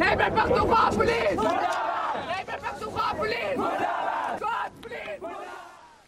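A loud crowd of protesters, including transgender people from Punjab and human rights activists, chants slogans against the government and law enforcement agencies in unison, voices overlapping in rhythmic shouted bursts, energetic throughout, with brief pauses between calls.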